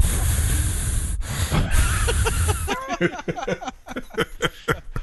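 Heavy, rushing breaths blown into a microphone for a few seconds, loud and muffled, followed by someone starting to talk.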